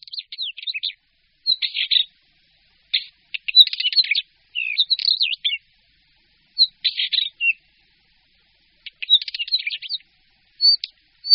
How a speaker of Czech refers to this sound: Tento krátký zpěv, složený z flétnových tónů, promíšených srčivými tóny, patří Bělořitovi šedému.